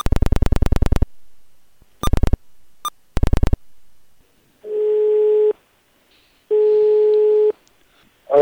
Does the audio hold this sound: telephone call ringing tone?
yes